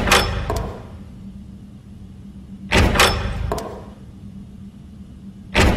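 A door opens with a series of heavy mechanical clunks and thuds, in three bursts spaced a few seconds apart over a low steady hum. No one speaks.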